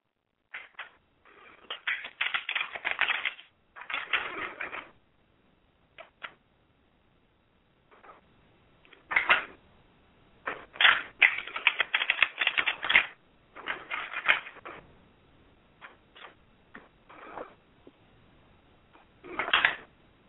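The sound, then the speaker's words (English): A deck of cards being shuffled in several rapid, crackling riffle bursts separated by short pauses, with no one talking. “I am shuffling the cards now, and you tell me when we're done.”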